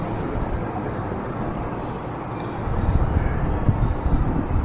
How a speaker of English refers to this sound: I'm riding on the train from Rajmundry in Andhra Pradesh to Chennai. We get in at like midnight.